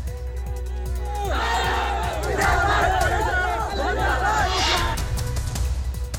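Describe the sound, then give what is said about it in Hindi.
A crowd of hundreds shouts and roars continuously as they attack the house of a Congress MLA during violence over an offensive social media post. Overlapping agitated voices, with rising yells and cries swelling over a steady low rumble throughout. “सैकड़ों लोगों ने कांग्रेस विधायक के घर पर हमला कर दिया।”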